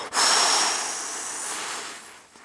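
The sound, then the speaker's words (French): A voice imitates the icy north wind of winter blowing harder and harder: one long, loud, breathy whoosh that swells at the start, holds steady with a faint whistling edge, then fades slightly. No words are spoken. “Il soufflait de plus en plus fort.”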